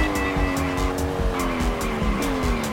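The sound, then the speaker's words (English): A car in a racing game played on an iPhone, steered by tilting the device in gyro mode, screeches with a sustained, slowly bending tire squeal over a steady engine whine, while rhythmic percussive pulses thump along underneath. Loud and continuous throughout, with no voices. “To race, you'll have to tilt your iPhone forward.”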